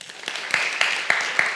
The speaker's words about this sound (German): Seht ihr, studiert ihr? Wer studiert alles? Einmal klatschen?